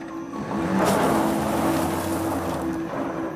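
A car engine hums steadily with a low, droning tone and broad road rumble as the car drives away, holding a fairly constant loudness for a few seconds with no voices.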